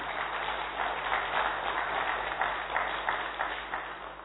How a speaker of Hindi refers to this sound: हम सब जोरदार तालियों से उनका स्वागत करेंगे।